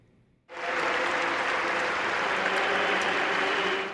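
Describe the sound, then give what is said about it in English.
A huge crowd in St. Peter's Square, Vatican, bursts into applause after a brief quiet moment as pallbearers carry the plain wooden coffin of Pope Francis from the basilica during his funeral mass; the dense clapping swells into a steady, loud roar of hands that continues without a break. “Applause erupted in St. Peter's Square as pallbearers carried the plain wooden coffin of Pope Francis from the basilica to the crowds outside.”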